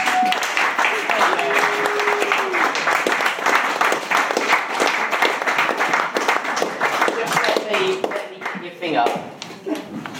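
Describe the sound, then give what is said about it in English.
An audience breaks into steady, dense applause lasting about ten seconds to welcome a female performer before she starts, a loud crackle of many hands with a few voices calling out underneath, thinning slightly toward the end. “If you clap her, she's going to start.”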